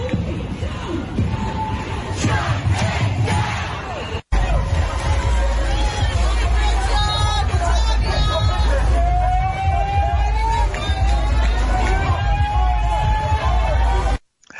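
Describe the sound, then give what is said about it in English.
Hundreds of protesters shout outside Barclays Center in downtown Brooklyn, New York City, in fury at a decision: a dense, loud din of many overlapping voices with raised cries rising above it and a low traffic rumble underneath, broken by a brief gap early on. “In New York City, hundreds of people gathered outside Barclays Center in downtown Brooklyn to express their fury with the decision.”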